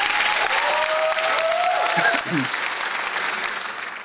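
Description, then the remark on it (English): Steady applause from an audience fills the whole stretch, a dense wash of clapping that stays loud throughout and eases slightly toward the end, with faint voices mixed into the crowd. “Audience, a big round of applause for a Take Action passionate patriot.”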